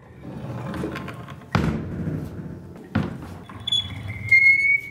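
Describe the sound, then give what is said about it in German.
A black wooden door at the entrance to a forest-themed art exhibition in Munich creaks open with a thin, high squeal near the end, after two heavy thuds of it being pushed and bumping, fairly loud over a low rumbling background. “Wer den schwülen Großstadtsommer hinter sich lassen möchte, der trete durch diese knarrende, schwarze Holztür.”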